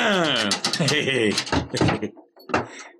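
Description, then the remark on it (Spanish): An armed guard opens the door at the entrance of a shelter; it swings open with a drawn-out, wavering creak, followed by a few sharp wooden knocks and a final clunk as it settles. It is fairly loud. “se detienen frente a la entrada del refugio vigilada por un guardia armado, que de inmediato abre la puerta.”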